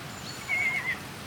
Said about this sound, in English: That wasn't an alpaca. That was a horse from the top field.